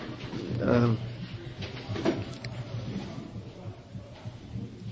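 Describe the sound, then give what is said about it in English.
A door is pushed closed with a short knock and a low thud, set against a murmur of background voices and room noise. “can you close that door somehow?”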